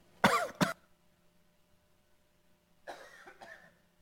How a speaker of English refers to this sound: I'm going to talk about this coughing fit later. It's in the outline.